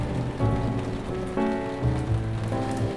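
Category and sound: nature, heavy rain shower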